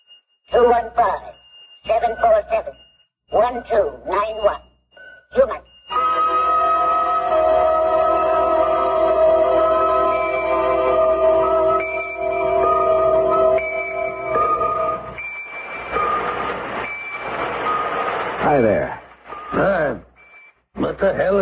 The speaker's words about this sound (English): What the hell is that noise? Oh, sorry. I've got a pocket alarm watch and it keeps trying to tell me something.